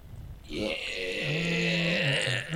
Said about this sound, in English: Yeah. A lot of burping. What happened? A lot of burping.